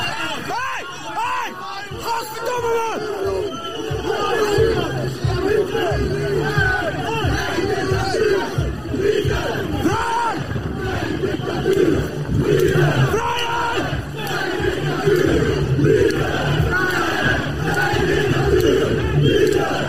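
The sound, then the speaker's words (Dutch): A crowd of demonstrators who have pushed through a line shouts loudly and continuously, chanting "love, freedom, no dictatorship", many voices overlapping in a dense roar of yelling and chanting that rises and swells throughout without a break. “En toen vervolgens was er weer even een soort een luid geschreeuw van demonstranten.”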